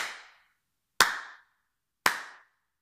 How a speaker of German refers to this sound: Der Wirt klatschte noch einmal in die Hände.